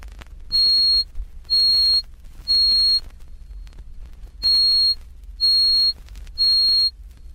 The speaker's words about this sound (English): Doubling this twice more to 4,186 cycles per second, we reach C sub 8, which forms the highest note on the piano.